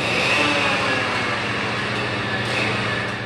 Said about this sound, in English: Huge machines run back and forth on long stretches of track, grinding down rails and carrying new ones. Crews deep in the tunnels take huge saws to pieces of metal. And cranes drop other pieces on the ground.